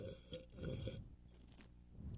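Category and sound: human body sound, drinking water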